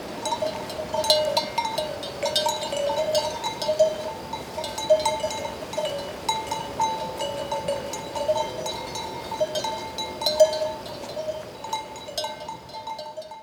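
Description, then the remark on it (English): A flock of sheep moves about with many small bells clanking and jingling continuously, mixed with occasional bleats over a steady outdoor background; no one speaks. “Oh, Sheep and Bells, Animal Flock, 138424.wave.”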